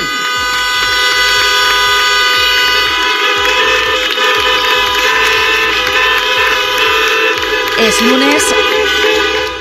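Many car horns honk at once at a street protest in Vigo, a loud, continuous, overlapping blare, with sustained tones layered over steady street noise for the whole stretch.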